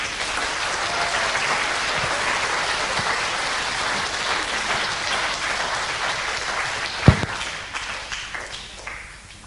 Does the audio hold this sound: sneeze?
no